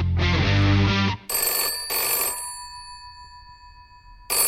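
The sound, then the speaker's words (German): A telephone rings for an outgoing call in repeated bursts of a bright, sustained electronic tone, each ring followed by a short pause, clear with no talking over it. “Der spontane Anruf.”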